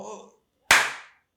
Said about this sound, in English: We should absolutely clap. good call, guys.